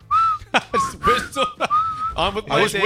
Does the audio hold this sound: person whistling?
yes